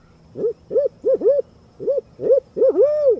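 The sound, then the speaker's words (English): A human voice imitates a barred owl, giving a series of rising-and-falling hoots in an uneven rhythm, ending with a longer drawn-out hoot, clear with no other sounds. “the barred owl, and the Carolina wren for good measure.”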